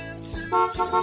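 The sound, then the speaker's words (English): A car horn honks twice in quick succession, each blast loud, steady and brassy, the second slightly longer, following a brief low rumble at the start. “All right, there's the car horn.”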